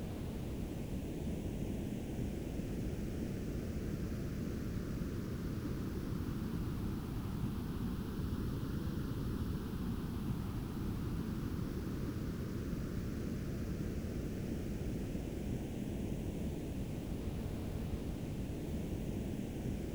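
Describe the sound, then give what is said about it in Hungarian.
A Hemi-Sync ping tone, a sound containing all frequencies, with upper and lower ranges set louder to compensate for typical human hearing loss, replacing an ocean-wave base: a steady, continuous hiss, heavier in the low end, with a slow phasing sweep that gently whooshes up and down. It stays at an even level throughout, with no voices. “Ez a ping hang. Egy hang, amely tartalmaz minden frekvenciát.”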